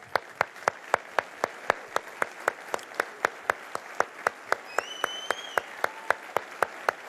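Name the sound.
audience applause and clapping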